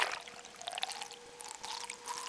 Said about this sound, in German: Man hört die Klickgeräusche des Schweinswals und wie er zum Atmen an der Wasseroberfläche auftaucht. Es platscht.